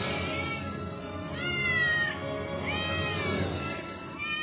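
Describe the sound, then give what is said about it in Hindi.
A cat meows in drawn-out, wavering cries, two or three of them running together over a few seconds, fairly loud against a steady background hum. “आखिर एक दिन वो दुष्ट बिल्ली आई और सारे चूजों को खा गई।”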